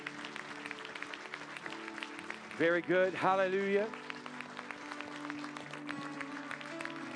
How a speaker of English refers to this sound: Can you give them a hand clap as they come this morning? Amen.